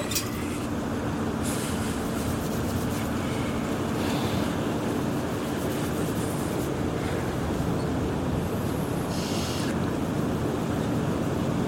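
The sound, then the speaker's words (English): A strong wind roars steadily and loudly outside in freezing, snowy darkness, the snow nearly hip-deep, a dense rushing noise with occasional hissing gusts swelling and fading. No voices are heard. “She was just standing there, staring out into the dark, facing the wind straight on.”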